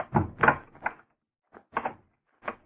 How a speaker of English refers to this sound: Go on, get the door open. Gotta get inside before we're spotted.